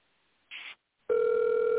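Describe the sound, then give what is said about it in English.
An outgoing phone call ringing: a short burst of static, a pause, then a loud, steady electronic ring tone that holds through the end. No voices. “Let me see if I can get him to answer the phone.”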